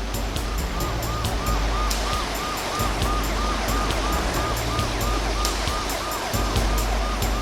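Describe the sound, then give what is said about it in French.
Steady, dense rain hisses throughout at night after a plane crash in Roseland, Indiana, while an emergency siren wails in repeated rising-and-falling cycles above it, with no voices. “Après, on n'entendit plus que la pluie tomber, puis le bruit des sirènes dans la nuit.”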